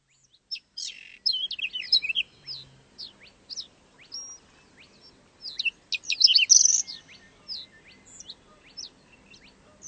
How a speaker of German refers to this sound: Haben Sie es gehört? Seltene Vögel kann man hier hören. Hier im Naturparadies.